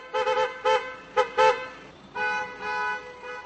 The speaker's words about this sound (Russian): концерты клаксонов автомобилей во время спонтанно возникавших после побед сборной Германии кавалькад, парализовывавших движение.